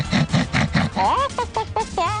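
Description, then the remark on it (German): A person imitates a pig, giving four rough, snorting grunts in a quick steady rhythm, fairly loud, then breaking into higher, squealing vocal sounds. “Schwein ist immer teurer als Huhn. Komm, grunz für mich.”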